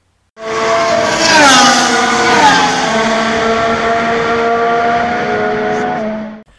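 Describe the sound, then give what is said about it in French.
Loud Formula 1 race car engines roar and rev together for several seconds at the start of the Canadian Grand Prix at Circuit Gilles Villeneuve in Montreal, pitches climbing and dipping as the cars launch, with a faint tire squeal at the start. “Alors, mesdames et messieurs, démarrez vos moteurs, c'est un départ!”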